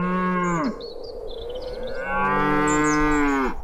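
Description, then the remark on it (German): Two long, loud dairy cow moos, one after another, with rich harmonic tone, separated by a short pause filled with faint farmyard background noise, on a farm keeping 60 dairy cows in Storndorf, central Hesse. No one speaks. “Er hält 60 Milchkühe und legt es darauf an, dass sie Milch mit einem besonders hohen Omega-3-Gehalt liefern.”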